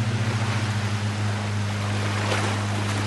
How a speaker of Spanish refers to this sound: ¿Una lancha? ¿Quién vendrá tan temprano? ¡Ah, sí! ¡Es mi hermana!